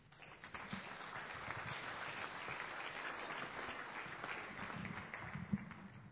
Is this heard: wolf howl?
no